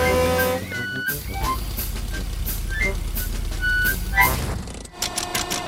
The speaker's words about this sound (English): There's plenty of petrol at my garage. I'll tow you there. Grandad Dog is towing Peppa's car back to his garage.